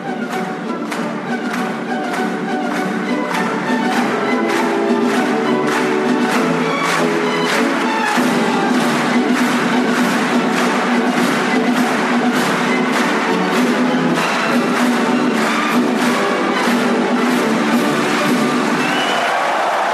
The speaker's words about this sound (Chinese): 你现在正收听到的是会让所有观众欢欣鼓舞的拉德斯基进行曲。